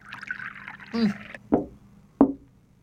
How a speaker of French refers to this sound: Je te sers encore une goutte de cognac.